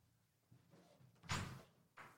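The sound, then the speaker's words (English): A door is opened and shut, a rattling thud midway followed by a shorter knock, heard over quiet background noise with no one talking. “Is she opening a door and shutting it?”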